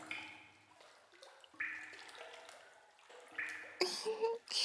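Shower water runs and splashes steadily into a bathtub, a broad hissing wash with shifting tones and a few louder splashy surges near the end, with no one speaking.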